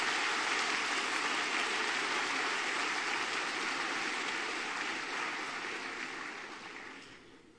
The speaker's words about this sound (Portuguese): Aplauda o Senhor.